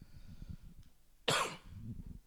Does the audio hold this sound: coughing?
yes